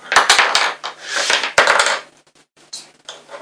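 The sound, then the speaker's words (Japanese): Small hard cups knocked and stacked together while a child plays at cooking, a busy run of sharp clattering clicks, thinning out into a few scattered taps with short pauses between. “カップは重ねないし、本当は。”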